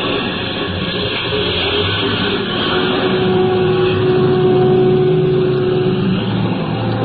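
A bus engine drones steadily and loudly as the bus pulls away onto a mountain highway, with a low humming tone that swells slightly midway. No one speaks.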